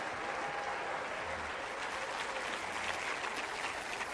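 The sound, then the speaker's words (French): An audience at a church service applauds steadily for the anointing God wants to pour out, a dense wash of many hands clapping at once with no pauses, moderately loud, with no speech over it. “Quelqu'un risque à amen et applaudit la variété de l'onction que Dieu veut répandre.”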